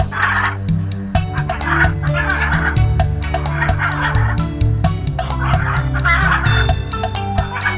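A comical bird call, turkey-like gobbling repeated in rapid loud bursts, playing over a steady, droning musical backing throughout.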